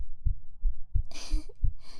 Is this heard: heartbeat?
yes